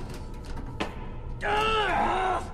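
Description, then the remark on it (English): A man strains with effort trying to open a heavy vault-style blast door, letting out one long, loud, tense groan for about a second, its pitch wavering, after a short stretch of faint shuffling and a brief knock. “He struggles to open a vault-style door.”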